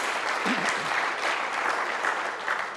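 An audience applauds steadily for a person who produced a resource, a dense, continuous wash of clapping that holds at an even loudness for the whole few seconds, with a faint voice briefly audible near the start.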